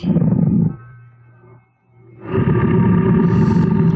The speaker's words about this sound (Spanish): Tassima, el tigre, ruge mirando a su ama.